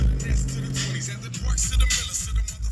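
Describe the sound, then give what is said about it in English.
A steady low engine rumble fills the cab of a pickup truck early one morning in December 2019, driving from the Imperial Courts housing project in Watts to a ranch in Richland Farms, a constant droning hum with some hiss and faint rustling, heard from inside the vehicle. “when I jump in his truck, he's right in the middle of it.”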